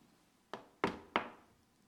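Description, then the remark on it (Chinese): Three firm knocks on a door, fairly loud, the second and third coming quicker than the first, over a quiet background with no one speaking. “有没有听到敲门？”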